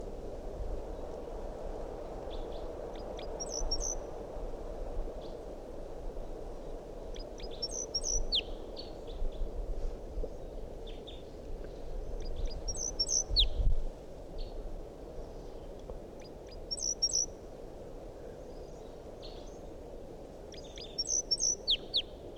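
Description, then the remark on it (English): A wild bird up in a big pine tree above a net gives short clusters of high, chirpy calls, sounding like type 2 calls, repeating about every four to five seconds over a steady background hiss. “Still 8:02, and that wild bird is up in the big pine tree above the net.”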